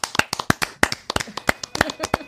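A short burst of hand clapping from a few hosts, the sharp claps overlapping in a quick, uneven patter for a couple of seconds at a fairly strong level.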